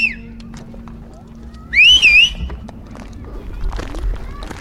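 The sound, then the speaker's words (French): A loud, wavering two-finger-style whistle rings out once over outdoor background noise, preceded by a short faint whistle, calling the boys over from over there. “Appelle-les là-bas. Qui c'est qui a un bon sifflet ?”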